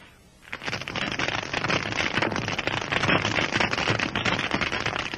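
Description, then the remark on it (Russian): Dense, continuous crackling of millions of tiny snapping shrimp living on a rocky sea floor, picked up by a hydrophone: countless sharp clicks merging into a loud, steady fizz that starts after a brief quiet moment and runs on without pause. “Гидрофон улавливает их громкую трескотню.”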